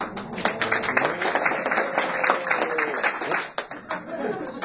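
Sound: scattered audience applause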